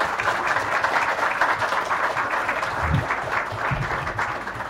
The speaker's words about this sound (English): and yes, let's have some applause for them, yeah.